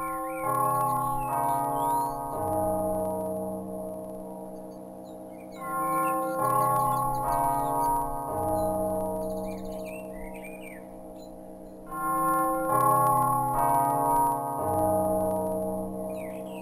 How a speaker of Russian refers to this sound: Тягостное раздумье прервал мелодичный звон колокола.